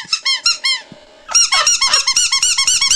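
A squeaky rubber chicken dog toy with a broken bottom squeaks a few times, pauses, then lets out a rapid, loud run of high-pitched, wheezing squeals with no talking.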